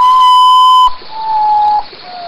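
A common potoo's (urutau, popularly called Mãe da Lua) mournful whistled call: a loud, pure note held almost a second, followed by slightly lower notes stepping down in pitch, with no voices.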